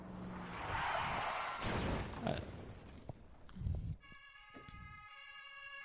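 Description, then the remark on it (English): A rushing, noisy swell gives way to a sustained, piercing siren-like wail with layered tones, loud within a music track, with no voices. “It does have a siren sound.”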